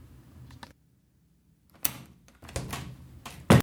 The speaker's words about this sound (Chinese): 一阵沉默之后，他还是试图的想要打开被沙发挡住的门，好像有听到他虚弱的说：“事情不是这样的，拜托帮我开开门”的声音。